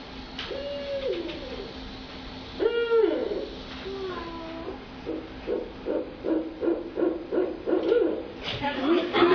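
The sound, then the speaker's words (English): Baby barred owlets call out to their mother in a noisy, chattering chorus, with wavering hoots and a burst of rapid, rhythmic yelps that sound almost monkey-like, steady over the whole stretch. “you're going to hear baby owlets calling out to their mother”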